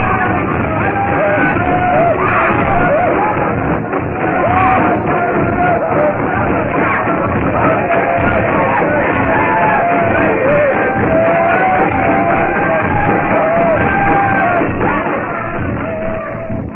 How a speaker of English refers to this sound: the gyrating, hideous dancing of the natives becomes more frenzied. Their shouts and yells carry to the jungle, where Professor Porter, Clayton, Philander, and Darno are breaking through the trail with all the speed at their command.